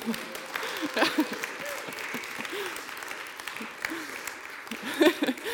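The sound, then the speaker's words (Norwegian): An audience applauds steadily for several seconds for the speaker's mom and dad, a dense wash of clapping with scattered voices and a few louder bursts near the start and end. “Gi en applaus til mamma og pappa.”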